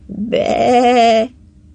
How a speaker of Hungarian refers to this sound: Bárány bégetés. Erős és dallamos, nem egy bárány, nyilván egy egész nyáj béget.